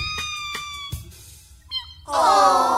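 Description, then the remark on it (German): A very small kitten with big eyes, clinging desperately to the helm of a toy boat, meows plaintively: a few short, thin cries, then a louder, drawn-out wavering meow at the end. No one is talking. “Es hatte große Augen und miaute kläglich, während es sich verzweifelt am Steuer des Spielzeugbootes festklammerte.”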